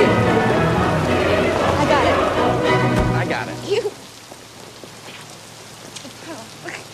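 Heavy rain pours down in a dense, steady hiss for several seconds outside an apartment building as a man dashes out of his truck, then cuts off abruptly, leaving a much quieter background with only faint scattered sounds.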